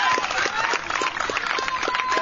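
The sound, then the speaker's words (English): A Washington County baseball crowd applauds a young pitcher leaving the game as the manager takes the ball for a pitching change, a dense, loud wash of clapping with scattered sharper claps and a murmur of voices mixed in, sustained throughout. “And now he's going to get a nice hand from this Washington County crowd.”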